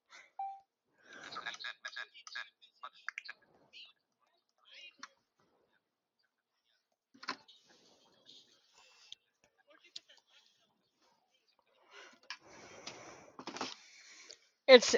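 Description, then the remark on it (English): Bursts of typewriter-style typing clicks, rapid and clustered at first, then sparse isolated taps, followed by a dense flurry near the end. Fairly faint, with a brief louder clack at the finish. “It's the typewriter thing.”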